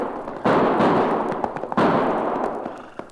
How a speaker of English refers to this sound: Not only did I hear those gunshots, Cherokee, but now I can see where they came from.